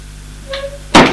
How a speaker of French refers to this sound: Madame, madame, vous êtes là ? Il ouvre une porte.